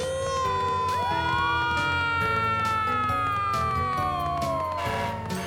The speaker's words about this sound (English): Okay, everyone, stand back. Keep a safe distance. Here comes the fire truck!